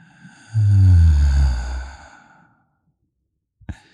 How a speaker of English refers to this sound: So do you want to take a breath with me and really connect? Because I do. Okay, here we go.